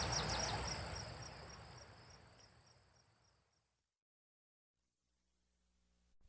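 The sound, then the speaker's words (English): Crickets chirp at night among campers' tents in steady pulsing trills, a shrill high-pitched chorus with a soft rustling hiss beneath, fading out after a few seconds into near silence. “By the time we're finished, all we can hear is some snoring from the other tents, a few crickets, and the squealing tires of some idiot turning donuts out there on the highway.”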